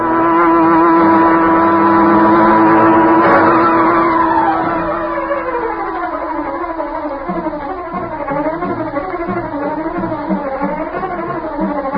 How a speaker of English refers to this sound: As Bleecker's car swung into the street and turned toward Schaefer's parking lot, a huge, sleek black car started along behind them. It was the car of the Green Hornet.